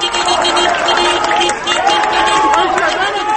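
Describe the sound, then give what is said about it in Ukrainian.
A dense, loud protest crowd at a memorial march turned protest against the results of a recent presidential election, with car horns honking, shrill whistles and scattered clapping, all blended into a continuous roar of many voices shouting and chattering. “Люди почали сигналити, свистіти, плескати, мовляв, ми тут і будемо далі протестувати.”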